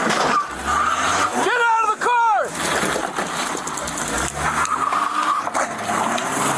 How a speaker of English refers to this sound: He just took off. He's rammed the sign. It's a red Volvo.